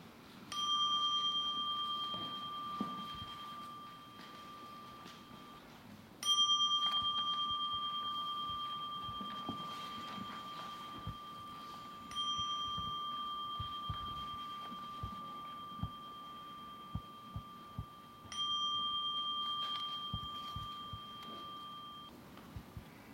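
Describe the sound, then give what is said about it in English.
A meditation bell is struck four times at steady intervals, each clear tone ringing out and slowly fading before the next strike, with no talking in between. “So I'll ring a bell and then a closing bell.”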